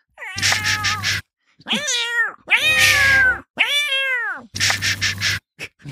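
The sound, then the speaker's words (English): A voice imitates a creaky door opening: a run of five drawn-out, squeaky wails with bending pitch, loud, separated by brief pauses and sounding almost like a cat's meows. “You're going to imitate the creaky door opening?”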